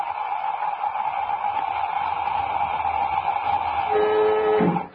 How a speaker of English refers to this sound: You can fill up the airlock now, Jet, and we get upstairs. Contact. Suit deflated. She's filling up. We're beginning to hear things again.